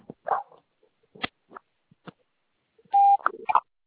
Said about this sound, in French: Je ne suis pas disponible pour le moment, mais vous pouvez me laisser un message après le bip sonore.